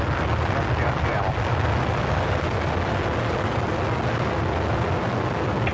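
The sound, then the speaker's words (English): Space Shuttle Atlantis lifts off on its final visit to the Hubble telescope, the launch roaring in a dense, unbroken wall of rumbling, crackling noise, heavy in the low end and steady and loud from start to finish. “6, 4, 3, 2, 1, and liftoff of Space Shuttle Atlantis, the final visit to enhance the vision of Hubble into the deepest grandeur of our universe.”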